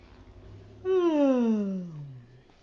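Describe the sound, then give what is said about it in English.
A person imitates a bear's yawn: one long, loud, voiced groan that starts high and slides steadily down in pitch over about a second and a half, then fades out. “That's not a bear. I yawn like the bear.”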